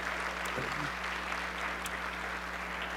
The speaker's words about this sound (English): And so, can we give the search team just a round of applause and the Lord?